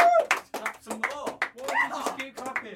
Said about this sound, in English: Just keep clapping.